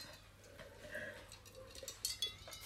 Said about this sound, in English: That's the ice you can hear in our rosé.